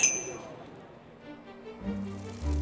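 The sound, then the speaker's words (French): Glasses clink together in a toast to the evening, a bright ringing chime at the very start that fades quickly, followed by a low hum and faint background murmur. “Trinquons à cette soirée et j'espère que vous trouverez quelque chose qui vous plaise.”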